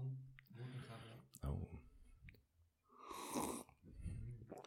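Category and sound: food or drink, slurping hot coffee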